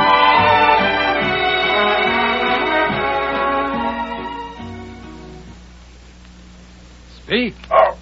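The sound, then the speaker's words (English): Two loud dog barks arrive in quick succession near the end of a radio commercial for Gaines Dog Meal, after several seconds of dense, tonal sound that fades into a quiet pause. “Yes, smart dogs speak for Gaines.”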